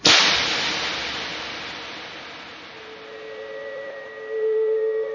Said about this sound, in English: This sound is the sound of clicking heels. Clicking heels. Clicking heels.